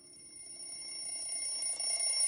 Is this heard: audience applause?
no